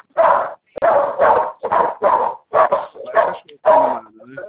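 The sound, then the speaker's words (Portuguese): A dog barks excitedly in a rapid series of about eight loud barks, ending with a softer whine. “Ah, agora é o cachorro que está animado.”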